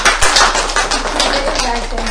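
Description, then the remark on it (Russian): A group of people clapping their hands together at a Maslenitsa celebration, a dense, steady patter of sharp claps that carries on loudly and evenly for about two seconds. “Хлопаем.”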